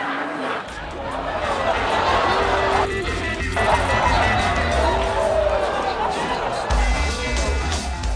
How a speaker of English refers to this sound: I don't know if everyone in the audience shouting yes heard Dr. Paul say no, but yay for uninsured patients being confused.